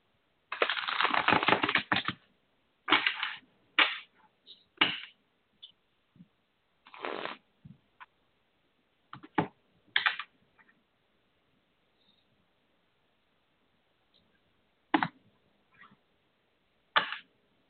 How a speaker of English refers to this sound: One more time, and I'll be with you. Make sure I get them shuffled good.